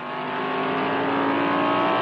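race car engine revving

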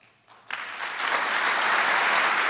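audience applause

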